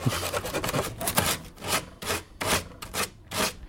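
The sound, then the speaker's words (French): Gritty sanding and scraping on a wooden chair being restored, done with fine prosthetist's hand tools and a scalpel: quick rasping strokes, dense at first, then slower separate passes with short pauses. Hissy, bright and fairly loud, with no voices. “Je la ponce, je la gratte, alors là j'ai des outils de prothésiste qui me permettent d'aller vraiment dans les détails, quoi, très très minutieux.”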